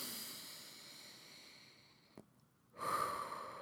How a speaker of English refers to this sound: On a really basic level, some of the most effective and free things that you can do is by making sure you take 5-6 deep breaths before you have a meal. So breathing in through your nose if you can. Just doing some deep breaths